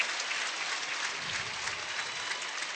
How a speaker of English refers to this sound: And I'll be interested to hear the applause that Solario gets here. And a nice wave to the crowd as she gets atop the award stand.